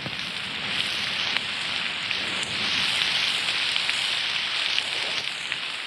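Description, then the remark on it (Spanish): Heavy rain pours down steadily in Hatun Soras, Viceroyalty of Peru, a dense, continuous hiss with scattered sharper drop impacts, loud throughout with no voices. “¡Maldita sea con esta lluvia! ¡No hay cuándo acabe!”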